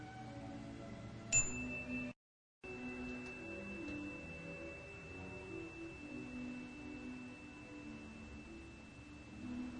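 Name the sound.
meditation chime ringing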